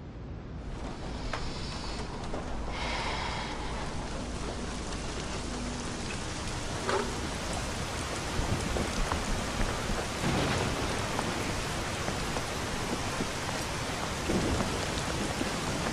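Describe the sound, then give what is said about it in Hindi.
Heavy rain pours down steadily and continuously, a dense hiss of drops, with a low rumble of thunder in the first few seconds. No voices. “मुझे क्या मालूम, जब से आया है बारिश में बैठा हुआ है।”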